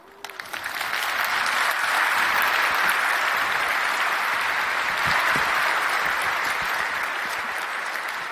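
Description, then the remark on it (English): A room full of people bursts into sustained applause at the end of a talk, just before questions are taken, many hands clapping densely and steadily for several seconds, swelling quickly at the start and staying loud throughout. “Wasn't necessary to encourage you to come with an applause.”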